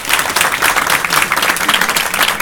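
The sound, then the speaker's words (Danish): An audience claps to vote for which story it wants to hear, many hands clapping in a dense, crackling wash that stays loud and even throughout, with no voices standing out. “Men jeg tænker, at vi laver sådan en klappe-ting, hvor at...”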